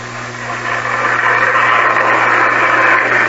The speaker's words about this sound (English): Well, let's see your train. It's all set up over here. It's got automatic signals and it'll stop on a dime. Watch.